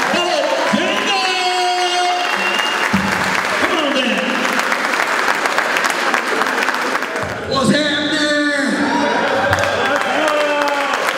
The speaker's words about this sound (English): We want to give him confidence, and we give that to him with a great applause. So let's bring my man up like a man.